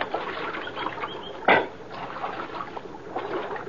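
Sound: splashing creek water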